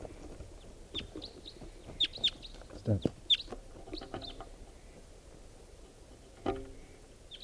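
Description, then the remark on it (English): A wild bird coming in calls in a scattering of short, high-pitched chirps, some in quick pairs, over a low rumbling background, and a person speaks a single word partway through. “There's another wild bird coming in.”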